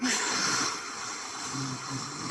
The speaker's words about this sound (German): Also das ist einfach, dass man so ein bisschen, wie wenn man eben den Spiegel anhaucht, so einen Widerstand erzeugt